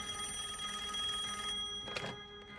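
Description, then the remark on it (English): A telephone rings on the line with a steady, buzzing tone as Hopper makes an outgoing call to the Philadelphia Public Library. A short rustling bump sounds near the end, and no one speaks. “But then, too late, Hopper starts making the phone call.”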